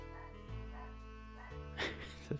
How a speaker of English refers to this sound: Wow, the neighbor's dog barks when I talk. Are you done? I guess not.